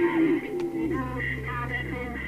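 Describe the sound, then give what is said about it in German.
Choppy radio static from a ghost box device rapidly scanning through radio channels, with brief tonal fragments and muffled snatches of broadcast sound cutting in and out over a steady hiss, moderately loud. “Es scannt in schneller Abfolge Radiokanäle und erzeugt so ein Rauschen, durch das angeblich Stimmen oder Worte von Geistern hörbar werden.”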